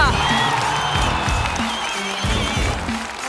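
A crowd applauds loudly and steadily, with cheers and whoops rising over the dense clapping for the full stretch, and some voices mixed into the noise.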